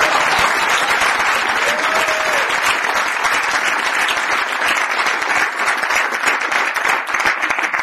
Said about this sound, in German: Aber jetzt geht es hier nicht um mein Gerede, sondern jetzt mal bitte den richtigen Applaus für die gesündesten Menschen der wichtigsten Stunde.